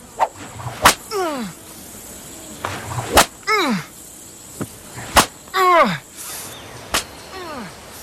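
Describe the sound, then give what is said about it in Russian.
In a courtyard, a burly overseer flogs a young man whose hands are tied to a log. Four sharp, loud whip cracks land about every two seconds, each followed by the young man's pained, falling cry. “Во дворе приказчик, дюжий мужик, сечет плетью молодого парня, привязанного к бревну за руки.”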